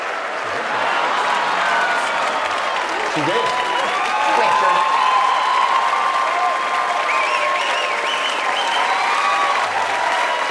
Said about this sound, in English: And judging by the 212 standing ovations on the Republican side, they're loving their guy.